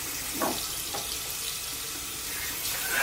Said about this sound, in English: He pushes his head into a mirror in a bathroom. He takes two pills and drinks from the faucet.